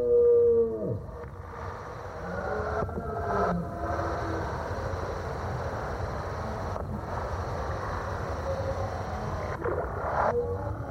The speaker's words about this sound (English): like on one of those days when you're up in the mountains and you think that you're hearing something, but you can't tell where it's coming from. And particularly, I think that sound of the roaring deer is one of those sounds.